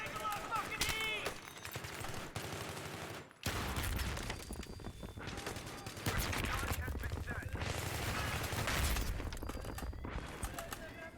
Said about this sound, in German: Gib mir eine Granate. Jetzt. So, jetzt mit Schmackes. Und wenn das Ding explodiert. Bam.